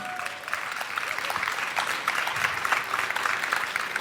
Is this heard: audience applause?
yes